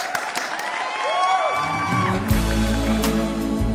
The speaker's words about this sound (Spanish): Como creemos en el turismo, trabajamos por el turismo y amamos el turismo, nos despedimos siempre con un aplauso.